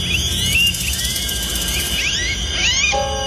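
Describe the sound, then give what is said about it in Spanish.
High-pitched rat squeals come in repeated rising and falling chirps over a steady noisy background, ending with a brief lower-pitched tonal sound, from the TV series V scene in which the character Diana eats a rat. “Esto es una rata chillando.”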